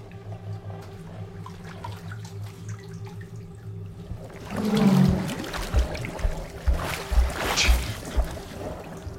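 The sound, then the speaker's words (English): A low steady hum gives way midway to a sudden swell of water, followed by irregular sloshing and splashing as a woman sinks down into a filled white enamel bathtub. “Letting go of her, she sinks down in the water.”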